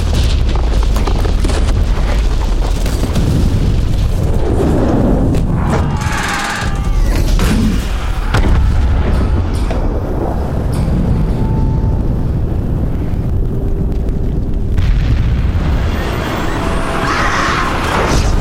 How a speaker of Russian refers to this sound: Хорошая визуальная часть, там очень хорошо все взрывается и горит.